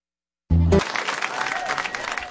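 Applause from a live concert audience breaks out after a final low musical note, a dense steady clatter of many hands clapping that continues at an even, moderately loud level.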